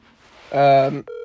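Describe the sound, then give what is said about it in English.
A phone call connecting: a loud, buzzy electronic tone lasts about half a second, then a steadier, clean ringing tone begins right after. “Alright, we're gonna call him right now.”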